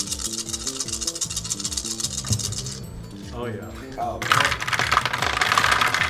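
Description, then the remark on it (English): Dice clatter down through a dice tower during a tabletop role-playing game, landing many sixes for a fire damage roll, in a quick burst of hard, rattling clicks, loud and busy, with people talking over the tumbling. “That's a lot of sixes. Dice tower.”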